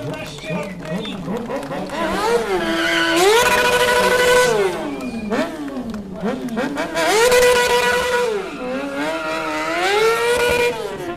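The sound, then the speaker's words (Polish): A sport motorcycle being ridden in stunt riding revs hard, its engine pitch climbing, holding and dropping in repeated loud surges as it drifts and burns rubber. “Stuntriding jest to jazda akrobatyczna na motocyklu sportowym. W skład wchodzi takie ewolucje jak jazda na tylnym kole, na przednim kole, styki akrobatyczne, drift, palenie gumy.”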